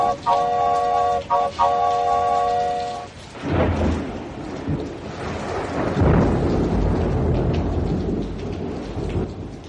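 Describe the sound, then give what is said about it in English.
A loud thunderstorm roars with heavy rain and deep rolling thunder, swelling in bursts, playing from a radio; a sustained, multi-toned train whistle sounds over it for the first few seconds, then cuts off. “the scream of the train's whistles hung in the air above the roar of the storm”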